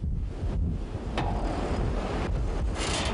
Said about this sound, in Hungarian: Bár az áramszolgáltatás már helyreállt Boldogkővár alján, most inkább a viharos erejű szél okoz gondot, amely egyre nagyobb hóbuckákat emel a település felé vezető úton.